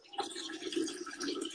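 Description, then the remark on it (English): A steady, fluttering trickle of urine splashing into toilet water, moderately quiet, running continuously for the whole moment with no voices. “Keep peeing.”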